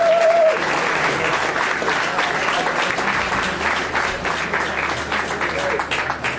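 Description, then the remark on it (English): Sustained applause from a sizable crowd for the AIB GAA show's second panel of Aidan O'Mahony, Cora Staunton and John Mahan, a dense wash of clapping holding steady for several seconds, with faint cheers mixed in and no clear speech. “All right, everyone, give the whole panel a big round of applause.”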